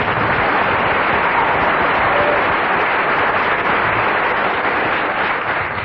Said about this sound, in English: I must invite you to give a huge round of applause to the only member of the quartet who didn't get a single laugh throughout.